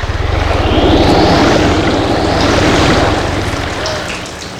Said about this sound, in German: Aber plötzlich ertönte ein tiefes Brummen. Das Wasser geriet in Bewegung und in einer aufrauschenden Welle erschien der schwarz glänzende Rücken des Ungetüms.